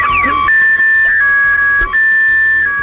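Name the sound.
alarm going off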